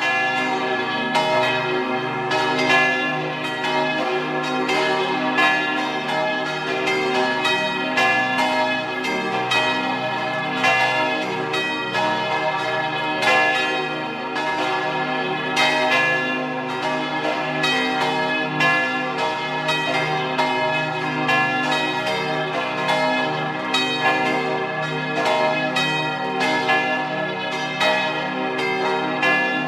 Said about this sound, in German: Es ist 12 Uhr. Sie hören die Glocken der Kirche zum heiligen Sebastian in Fontanella in Vorarlberg.